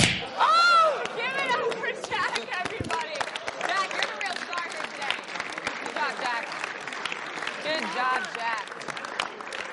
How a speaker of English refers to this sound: Now you gotta act like you slap my hand, like you slapped me. No, the other way. Use the hand. Slap me again. Slap the hand harder.